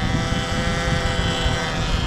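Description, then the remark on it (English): A steady, loud roar from a burning gas line, a constant rushing hiss with deep rumbling underneath that holds without pause, engine-like in tone, with no voices. “That's a gas line on fire.”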